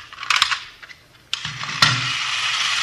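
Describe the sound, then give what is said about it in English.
A few sharp mechanical clicks, then a miniature toy Sherman tank's motor starts up into a steady, buzzing whir with a low hum underneath, running continuously and evenly to the end. No one speaks. “See this gadget here? Pretty clever, huh? Yeah. Miniature Sherman tank. What's it do? Watch.”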